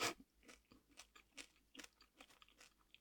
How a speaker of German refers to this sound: Hört mich das jetzt, wenn ich schmatz?